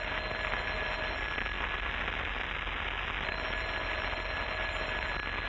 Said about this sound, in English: why don't you answer the phone? I'm thinking about it. Never mind, I'll answer it.